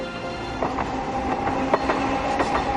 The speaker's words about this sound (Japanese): わっ、路面電車。初めて見た。おもちゃみたいな2両だけの電車が目の前でガタガタとカーブを描いていった。